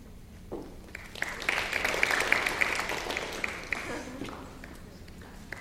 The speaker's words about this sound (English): We are violating the clapping rules left and right.